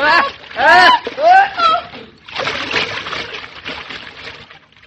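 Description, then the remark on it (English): A person cries out for help, then is pulled into a scummy pond with a heavy splash, followed by a few seconds of churning, sloshing water. “You had to pull me in.”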